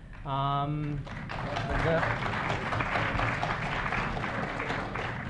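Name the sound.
audience clapping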